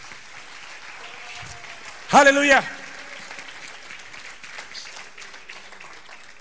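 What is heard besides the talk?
audience applauding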